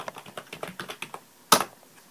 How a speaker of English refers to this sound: Spotlight search text field. And here we are going to type in bootcamp.